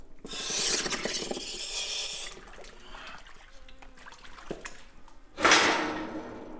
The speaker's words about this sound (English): One by one, the divers slide into the water.